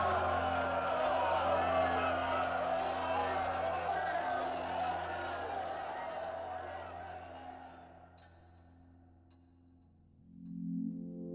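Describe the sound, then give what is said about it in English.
A vast stadium crowd at the opening of the Berlin Olympic Games cheers Hitler in a loud, sustained roar after he declares the Games open, raising their right arms. A low, humming old recording runs underneath, and the roar gradually fades away after several seconds, leaving faint rumbling background noise. “Now they're all cheering him, and the whole crowd have raised their right arm.”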